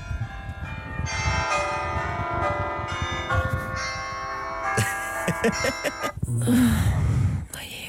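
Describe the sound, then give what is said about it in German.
A morning alarm ringtone of church bells chimes steadily, overlapping peals ringing loud for several seconds before cutting off, followed by a brief burst of muffled rustling or voice. “Die Bayerin mit Kirchenglocken macht sie auf.”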